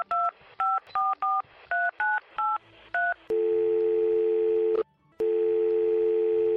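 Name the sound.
telephone number being dialed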